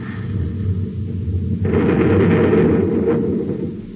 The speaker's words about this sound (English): Pap, stand by to fire both atom cannons.